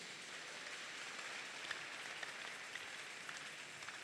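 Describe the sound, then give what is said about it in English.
A crowd applauds for Jesus, clapping their hands to appreciate God, with steady, dense hand clapping for about four seconds, a continuous wash of claps with a few sharper individual claps standing out, and no one speaking. “I said clap for Jesus.”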